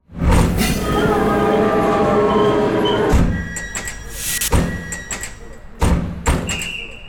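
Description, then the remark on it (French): A very large train rumbles loudly with a steady droning hum for a few seconds at a railway station, then heavy clanks, thuds and hissing bursts follow, like doors and couplings. “Il y a des très gros trains.”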